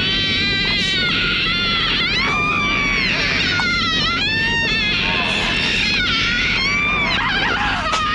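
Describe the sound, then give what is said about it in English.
A long, sustained moaning scream from a movie, about nine seconds long and shortened from its full length, with wavering, bending pitch that rises and falls continuously over a steady low rumble, loud and unbroken throughout. “But this movie wanted to have the longest moan scream that it could ever create in the world, and here it is.”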